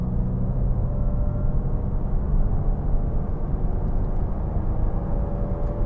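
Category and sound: vehicle, car interior driving noise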